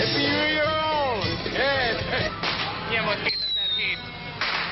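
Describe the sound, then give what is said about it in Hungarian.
Fireworks crackle and pop over a noisy crowd of thousands celebrating New Year's Eve outdoors in the streets of Budapest, greeting 2008, with rising and falling whistling tones sweeping through the din and scattered sharp bangs. “Forradborral, világzenével és tűzijátékkal köszöntötték 2008-at.”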